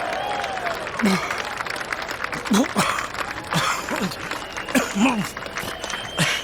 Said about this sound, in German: Ein kleiner Applaus, bitte.